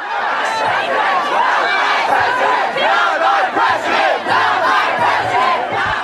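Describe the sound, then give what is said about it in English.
A loud protest crowd in front of Los Angeles City Hall, the day after the Trump election, cheers and chants "Not my president" while setting a Trump effigy on fire, many voices shouting and overlapping in a dense, continuous roar that holds steady for several seconds. “Protesters cheering, chanting, "Not my president," while setting a Trump effigy on fire.”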